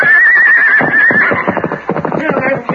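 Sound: horse neighing and hooves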